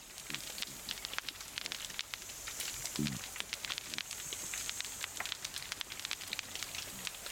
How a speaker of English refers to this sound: This is the snap, crackle and pop of pistol shrimps, occasionally with the sounds of grunting cod.